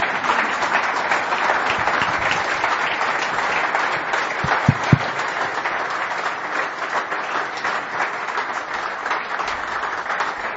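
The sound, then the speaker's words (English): An audience stands and breaks into sustained applause for the work of God in a man who received a new liver: a dense, steady wash of many hands clapping that holds at an even, fairly loud level for about ten seconds, with no talking over it. “Just because God is worth it and this man's family is worth it, why don't you stand and give a round of applause to the work God's done in”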